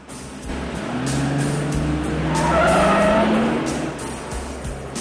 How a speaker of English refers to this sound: the cops give chase to Andrea, who's fleeing in her car.